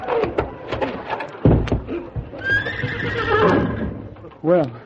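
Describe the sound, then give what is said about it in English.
A horse attacking a man in a fight gives a long, loud, quavering whinny that rises and trembles for over a second, followed by a short, sharp neigh at the end, with scattered thumps and clatter earlier. “Titus, call out that horse, you'll kill me.”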